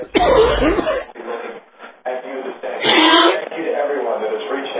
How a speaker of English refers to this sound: You okay? Yeah, I'm fine. I just just started coughing.